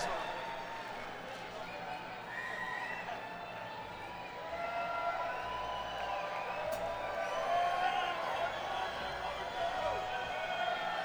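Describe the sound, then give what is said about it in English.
An audience applauds steadily, the dense clapping blended with cheers, whoops and overlapping crowd voices, holding a continuous moderate level and swelling slightly partway through. “Well, yo, how about a round of applause for the love from the audience?”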